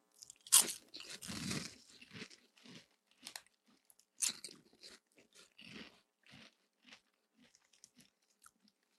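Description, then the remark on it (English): Loud crunching of truffle-flavored chips: a burst of big bites at first, then a steady run of smaller, irregular crunches as the chewing continues and gradually softens. No one speaks. “I wish it held the crunch a tiny bit longer.”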